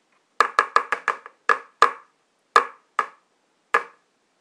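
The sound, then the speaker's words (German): While Miracle Whip is being spooned into a dish, a lid clatters down in a quick burst of sharp, bright knocks, then a few more spaced-out clacks as it settles. About a dozen hits in all, with no voices. “Und runtergefallen der Deckel.”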